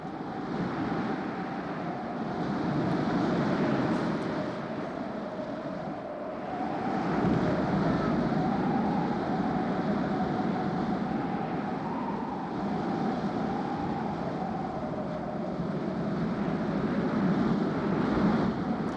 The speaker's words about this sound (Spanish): El barco en el que viaja es presa de repente de una terrible tempestad.